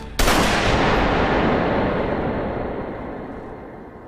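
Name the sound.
gunshots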